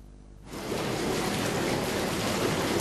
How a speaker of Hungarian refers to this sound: Ez a jacuzzi nem egy wellness szállóban, hanem egy falusi vendégházban működik.